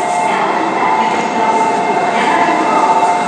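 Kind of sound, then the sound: vehicle, train at station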